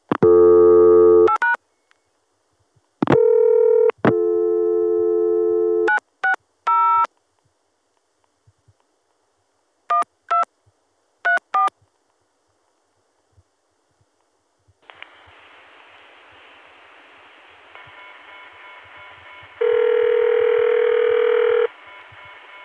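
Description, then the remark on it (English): Steady telephone tones give way to a few quick touch-tone dialing beeps as 960 is dialed over the ContelNet on an Atlanta to Chicago connection, then a hissy, buzzing line and the loud electronic modern ring of the 960 PBX near the end. No one speaks. “Here's 960 being dialed at a time when the Atlanta to Chicago connection was available, and so we stayed within the ContelNet, going directly to the PBX, which has a modern ring.”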